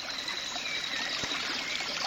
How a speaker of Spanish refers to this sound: ¿Escuchan? Ese es el río Yasuní, enorme y muy caudaloso. Estoy cerca de Garzacocha, una comunidad guaraní que es ahora un territorio protegido por el INEFAN.